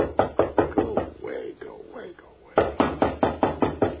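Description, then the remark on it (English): Loud, rapid knocking on a door in two bursts, about five to six firm raps each, separated by a short pause where a faint voice and rustling can be heard. “I'm just going to let him knock.”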